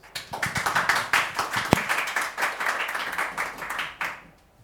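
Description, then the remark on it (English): An audience at a talk claps steadily in dense, overlapping, full applause for about four seconds, then it tapers off quickly to quiet at the end. “give Nadim a huge round of applause”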